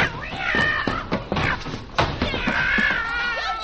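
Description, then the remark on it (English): A cat yowls and meows loudly, with two long wavering cries among shorter meows, while sharp thumps and clattering bangs break in between them. “I will get on that pussycat's back and play like a racehorse.”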